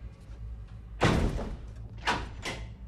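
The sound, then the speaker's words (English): The door of a ship's brig shuts with a loud, heavy thud, followed about a second later by two shorter mechanical clunks as it is locked, all over a steady low hum with no voices. “Mitchell shoves Merrick into the brig and locks the door.”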